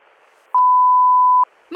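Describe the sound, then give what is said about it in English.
A telephone off-the-hook tone: one steady, piercing electronic beep held for about a second over faint line hiss, then a voice starts right after it. “I was just walking down the hall and the phone was off the hook.”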